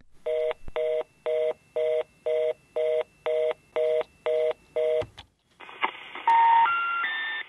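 A quick, evenly spaced run of about ten telephone keypad dialing tones as a toll-free number is called, followed by a brief click and then a steady electronic line tone with a rising three-note signal.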